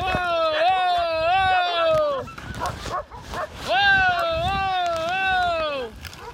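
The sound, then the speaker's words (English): Several sled dogs bark and yip excitedly in two long, overlapping bursts of high, wavering cries, loud, with a brief scuffling pause between them. “And when things started going smoothly, the speed of the sled and the dogs is impressive.”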